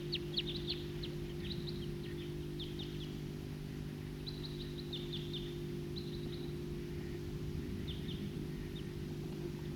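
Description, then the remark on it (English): A flock of wild birds chirps in scattered bursts of short, high calls, several voices overlapping, over a steady low droning hum that runs throughout. No one speaks. “It's a recording flock of wild birds.”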